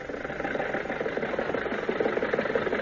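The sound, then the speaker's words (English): A car engine runs at a steady, even drone with a mid-pitched rumble, holding constant loudness for a few seconds with no voices over it, as the car drives through a crowded drive-in theater, following the car in front. “Well, why don't you follow that car in front of you?”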